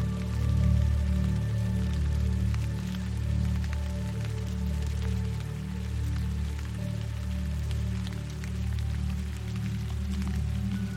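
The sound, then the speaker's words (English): Steady rainfall patters continuously, scattered drops ticking sharply over a dense wash, with a soft sustained low drone humming beneath throughout. No one speaks. “Now feel the rain clearing not just your body, but also your mind.”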